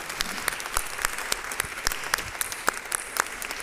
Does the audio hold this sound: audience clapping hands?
yes